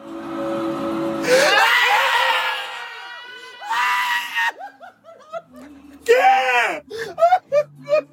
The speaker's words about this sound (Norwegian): De hyler och skriker och griner.